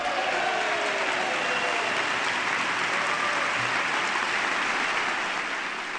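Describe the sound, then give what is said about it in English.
A large crowd in the chamber applauds steadily and loudly for the full six seconds, a dense wash of clapping with cheers rising through it at a constant level, and no voices speaking over it. The applause and cheers are for Senators Orrin Hatch and Edward Kennedy. “And loud cheers there for both of those senators, and no doubt, especially for Senator Kennedy”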